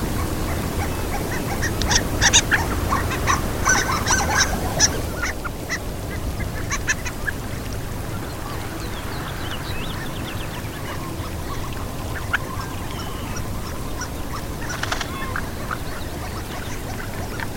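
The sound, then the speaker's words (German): Harlequin ducks give thin, squeaky calls in quick bursts, thickest during the first few seconds and then scattered, over a steady rushing background like surf or a stream. “Dazu kommt, dass die Kragenente eine ganz erstaunliche Stimme hat, die man einer Ente jetzt auch nicht unbedingt zutraut.”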